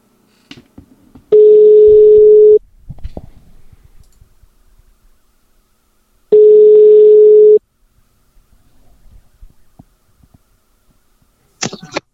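Brief clicks of a phone being dialed to call a winner of a GP Shop prize draw, then two long, steady ringback tones about five seconds apart, each lasting over a second, with faint rustling between and no talking.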